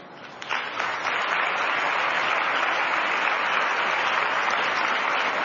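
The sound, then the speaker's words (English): An audience at an afternoon gathering breaks into sustained applause as a blues singer is introduced, a dense, steady wash of clapping that swells in the first second and holds at an even, fairly loud level, with no voices heard over it. “By your applause, I see you know who she is.”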